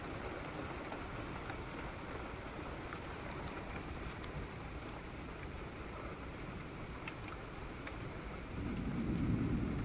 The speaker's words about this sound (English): Ooh, this one just made a thunder. I see a lightning bolt right there.